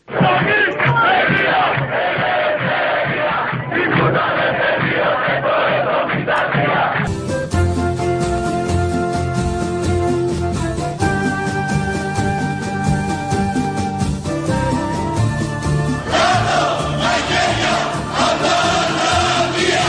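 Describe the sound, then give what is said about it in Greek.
A large protest crowd chants present-day slogans in loud, rhythmic unison, 37 years after 1973. A stretch of steady, sustained tones interrupts it midway before the dense chanting returns. “Αυτά είναι σημερινά τα συνθήματα. Υπάρχει μια ομοιότητα με τα τότε συνθήματα.”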